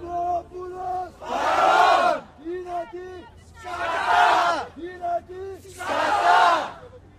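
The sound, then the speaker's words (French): A protest crowd chants in call and response: a single voice calls out the boy's name, Grigoropoulos, and many voices roar back a loud reply of "présent", repeated three times in a steady rhythm. “Encore le nom du garçon, Grigoropoulo, et tout le monde qui répond présent.”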